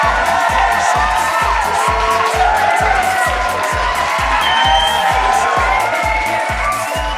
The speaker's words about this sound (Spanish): A raíz de esto, este aplauso enorme va dedicado completamente a ellos. Y está de más decir lo mucho que se lo merecen.